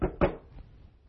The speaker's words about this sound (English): So he sees what looks like a nice place to spend the night, and he goes up, he knocks on the door.